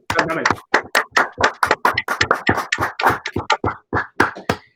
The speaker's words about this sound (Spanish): yo creo que personalmente por parte de todo el equipo de Emboses le tenemos que dar las gracias a los seis por habernos dejado meterles el hecho por todo lo que acarrea, ¿no? Yo creo que se lo merecen. Un aplauso.